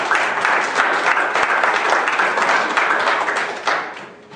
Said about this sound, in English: Give the Lord a hand of applause again.